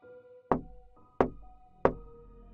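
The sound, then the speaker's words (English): Three firm knocks on a door, evenly spaced about two-thirds of a second apart, sharp, with a faint steady hum of background tones underneath. “I was deep into the game when someone knocked on the door.”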